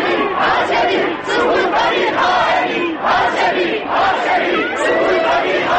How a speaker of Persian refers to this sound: صدای هاشمی رفسنجانی از سوی بلندگو به خیابان‌های اطراف دانشگاه تهران می‌رسد. جمعیت اوج می‌گیرد و یک صدا فریاد می‌زند.